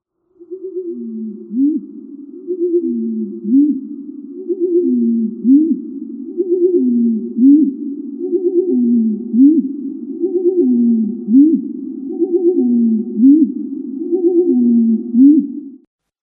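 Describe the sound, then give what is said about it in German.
Bird song slowed sixteen times, turned into a low, hooting, owl-like series of swooping tones repeating steadily like a metronome, about a dozen notes over sixteen seconds, with no talking. “Das hören wir uns jetzt mal in 16-facher Zeitlupe an. Wird es sehr eigenartig klingen, was der Vogel da von sich gibt.”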